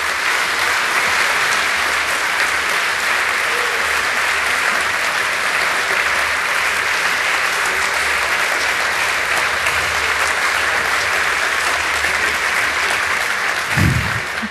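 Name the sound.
audience applause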